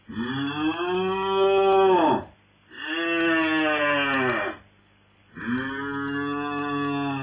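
A calf moos three times in a row, each call a long, loud bellow of about two seconds with short gaps between, and no voices alongside.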